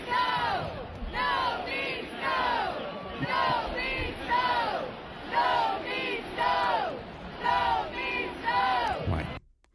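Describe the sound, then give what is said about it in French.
A hockey arena crowd in Carolina chants "No means no" in loud unison, repeating it over and over in a steady rhythm roughly once a second, with a wash of crowd noise underneath. “La foule scandait. No means no.”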